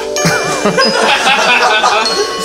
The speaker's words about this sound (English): Time for church bells.